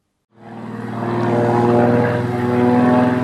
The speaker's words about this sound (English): Just south of the Queensland border and within sight of the high rises of the Gold Coast, planes are bombing mangroves with insecticide to keep mosquitoes at bay.